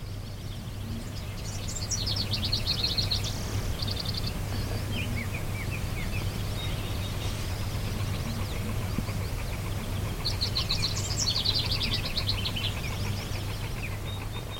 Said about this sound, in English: I'm hearing house wrens. I'm just trying to distract you from the one that I don't know. The nice warbly sound is house wren. It's a house wren, okay.